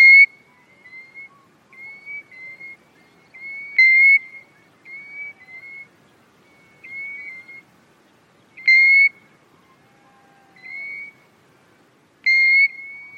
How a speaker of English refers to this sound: The wistful voice of Golden Plover is my own favourite. Their single alarm note is well known to hill walkers.